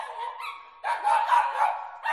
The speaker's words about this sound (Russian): Я проснулся от лая соседской собачки.